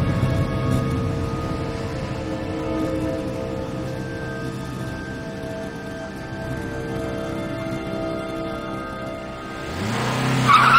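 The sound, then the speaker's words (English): A white sedan's engine hums steadily, then surges loudly near the end as it pulls away out of a parking lot, its tires squealing briefly on the asphalt. No one speaks. “He wakes in time to see a car pull away.”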